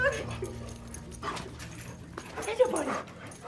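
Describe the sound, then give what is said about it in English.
A therapy dog greeting someone at the door of the Boston Vet Center whimpers and pants, giving a few short high whines over its breathing, with a low background murmur and faint voices behind it. “A lovable therapy dog greets me at the door.”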